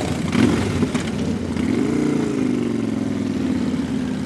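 Several motorcycle engines rumble steadily at low speed, a layered idling drone with rising and falling revs as the last of hundreds of Patriot Guard riders' motorcycles in a funeral procession roll slowly through cemetery gates, with no voices.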